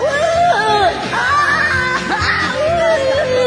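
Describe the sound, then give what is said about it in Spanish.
A voice imitates the high, wavering scream of a girl being spun round and round while dancing, sustained loudly for several seconds with rising and falling pitch glides. “Y más, y ella seguía gritando y vueltas y vueltas y vueltas hasta que no sé cuántas vueltas le di.”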